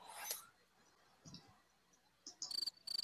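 Crickets chirp in quick, rhythmic high-pitched pulses, moderately loud, with a brief rustle and a lower thump in between and no talking.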